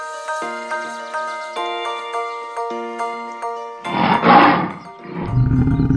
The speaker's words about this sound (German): Gut gebrüllt, Löwe!